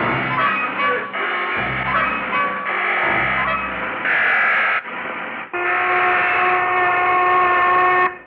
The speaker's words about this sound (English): Mamma mia, somebody has escaped. That's a lunch whistle